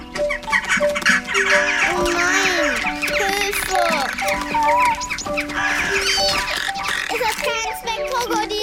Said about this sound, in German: Oh je, es kommen immer mehr Vögel, die eure Samen picken wollen.